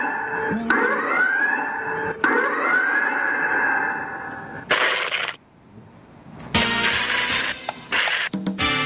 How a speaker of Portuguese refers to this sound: Marquinho, bote aí a sirene.